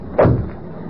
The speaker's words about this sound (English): And then we'll just shut these doors.